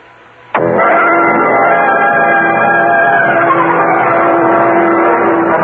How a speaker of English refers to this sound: Cal Hendricks and I got into his car and we drove out to the City Island of the Island Yacht Club.